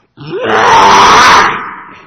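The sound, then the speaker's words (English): A person's voice imitates an elephant screaming in a tantrum: one loud, harsh, strained cry that rises abruptly, holds raspy and shrill for over a second, then tapers off, with no talking. “This elephant just went into a tantrum and started screaming.”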